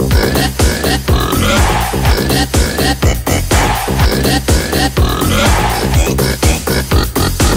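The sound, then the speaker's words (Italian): A voice grunts and snorts like a pig in a rhythmic, sung pattern, as part of a song of animal noises, riding over loud, steady music with a strong regular beat throughout. “Mi raccomando, è la prima volta che canto maiale, state attenti alle parole, scandirle!”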